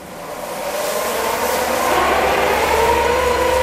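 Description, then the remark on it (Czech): A filtration-ventilation unit in a shelter, filling a quarter of the room and cleaning incoming air of chemical, biological and radioactive particles, is driven by hand with a large crank. It whirs steadily, its broad rushing drone swelling over the first two seconds, then holding loud with a low hum and a faint whining tone rising in pitch. “Tady je filtroventilační zařízení, které slouží k očištění dovnitř proudícího vzduchu od chemických, biologických a radioaktivních částic.”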